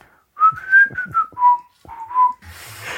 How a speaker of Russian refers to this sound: Ты свистишь, и мелодию можешь какую-то напевать, тебе нравится.